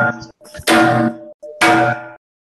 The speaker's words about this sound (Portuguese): É o sino da meia-noite. Não. É o sino da meia-noite. Eu imagino num sino assim, ué.